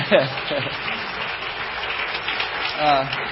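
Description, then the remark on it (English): A steady wash of audience applause at a service for a few seconds, dense and even, with a voice briefly cutting through near the start and end. “Now, okay, I got a bigger applause in the first service with my stand up back here.”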